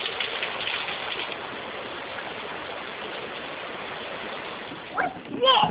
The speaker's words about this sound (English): We were about ready to go outside and go to the beach, but then we hear thunder. A couple minutes later, it starts raining.